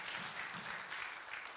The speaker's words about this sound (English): Go ahead and give God a hand clap of praise in the house. Hallelujah.